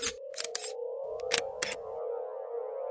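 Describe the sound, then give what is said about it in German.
Several sharp mechanical camera shutter clicks in quick irregular succession, about five snaps, over a steady high electronic whine like a flash charging, clear with no voices. “Das Bild kann nur etwas werden, wenn Blitz und Kamera extrem schnell sind.”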